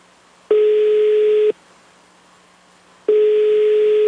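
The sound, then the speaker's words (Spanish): Two long, steady telephone ringback tones of an outgoing call, placed during a radio contest hotline to a listener. Each tone lasts about a second, separated by a pause of roughly a second and a half, with faint line hiss between them and no voices. “Así que muy pendiente, por favor, si suena tu teléfono, que si a lo mejor es un número que no conoces, ese número te puede cambiar la suerte el día de hoy.”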